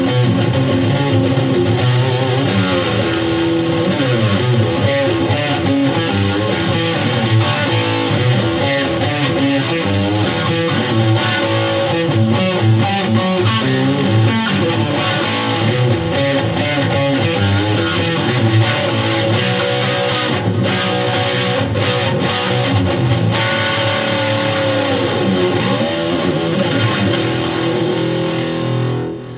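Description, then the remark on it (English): A distorted electric guitar plays through an amp with a huge stack sound at not even half volume, loud, with thick sustained chords and riffs running continuously for about thirty seconds and no talking over it. “Yeah, it's awesome because, I mean, you're getting this huge stack sound. And it's not even half volume, you know?”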